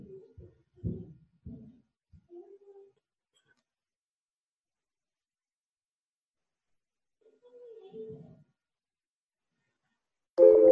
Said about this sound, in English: All right. I hope this timer sound is not giving you like problems. You know, sometimes people have like this reaction, heart attacks.